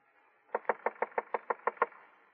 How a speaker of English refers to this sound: So I slam out of my room and bound up them rickety wooden stairs and knock at the door of the room.